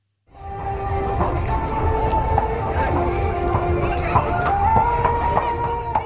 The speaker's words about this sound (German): Auf dem Pferderennplatz von Nurelia herrscht Feststimmung. Rennpferde trippeln aufgeregt hin und her und Kinder klettern auf Ponyrücken.